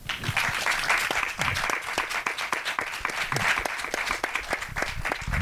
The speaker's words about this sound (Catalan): Però bueno, jo crec que es mereixen totes un fort aplaudiment.